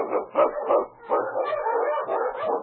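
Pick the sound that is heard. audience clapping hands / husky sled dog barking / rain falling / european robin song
husky sled dog barking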